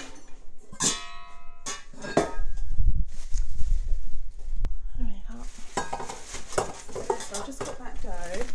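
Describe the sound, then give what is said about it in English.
Dough is worked with a dough hook in a metal bowl of a K-mix mixer, with sharp clinks and clatters of metal, a rumbling churn in the middle, then rapid scraping and knocking toward the end. “Got the dough hook here.”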